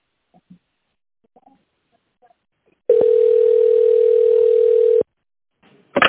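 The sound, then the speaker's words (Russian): A steady, mid-pitched telephone line tone, heard while waiting for a secretary to answer on the automated line of the company Integrated Services Group, holds for about two seconds at constant loudness, preceded by faint scattered sounds and followed by a brief burst of noise. “Пожалуйста, наберите номер абонента в тональном режиме или дождитесь ответа секретаря.”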